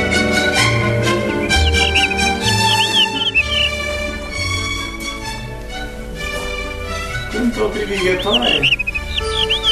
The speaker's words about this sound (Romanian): O privighetoare aici?